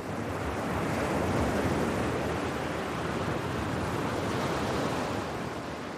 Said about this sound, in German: Wenn meine Seele am Meer im Klang der Wellen schwingt, mein Atem den Rhythmus der See findet, und mein inneres Auge in Leichtigkeit und Tiefe zugleich in seiner Mitte ruht, dann breitet sich Stille aus.